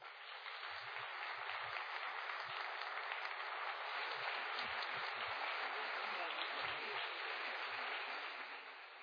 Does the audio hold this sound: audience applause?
yes